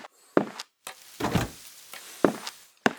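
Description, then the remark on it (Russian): A room door being shut, with several sharp wooden thuds and clunks spread across a few seconds, some shuffling between them, and no voices. “Погоди, в комнату дверь закрыть надо.”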